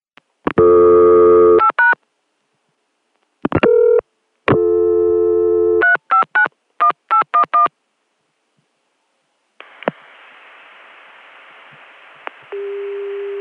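A phone line on a PBX with steady dial tones broken by bursts of rapid touch-tone dialing beeps, followed by a hissy, noisy line and a lower steady CCSA dial tone at the end; no one speaks.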